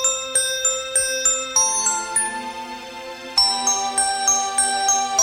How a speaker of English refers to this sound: My parents hadn't heard the bell's beautiful ring. Oh, well, it's only a bell, and you've got so many other nice things.